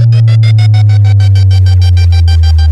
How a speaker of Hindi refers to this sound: आइए अब आपको सुनाते हैं अपने डीजे का तबाही मचाने वाला वाइब्रेट बेस।